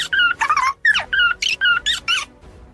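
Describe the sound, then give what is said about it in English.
A high-pitched cartoon squirrel in a political advertisement about the health care bill squeaks in a rapid run of about eight chattering, bending chirps, loud and alone, then falls quiet at the end. “I won't stop until they hashtag show me the bill, squeaks the squirrel.”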